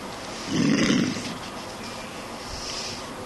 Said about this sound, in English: It's just snoring.